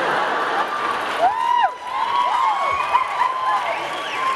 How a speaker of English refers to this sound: no, that's a coyote. That's the different sound.